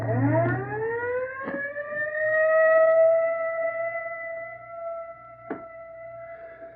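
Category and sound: vehicle, ambulance siren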